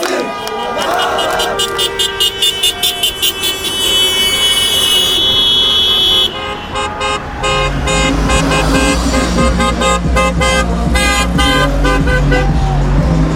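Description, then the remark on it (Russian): Car horns honk repeatedly in rhythmic bursts on Lenin Street, the main road, as drivers celebrate with fans of the Avangard hockey club, blending with a cheering crowd and idling engines, loud and continuous throughout. “Никто не против, автомобилисты за, сигналят, все счастливы.”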